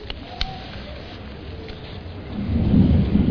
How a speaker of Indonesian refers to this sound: Masya Allah, kayaknya Jakarta mau hujan nih jemaah. Udah hujan. Masya Allah.